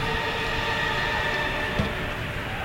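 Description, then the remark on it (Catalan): Loud applause in the Olympic stadium at the opening ceremony of the Olympic Games, after the Spanish delegation and the other athletes finish parading. It holds steady throughout as a dense, continuous wash of clapping, with no voices and no pauses. “I en aquests moments, són forts aplaudiments, ho esteu sentint.”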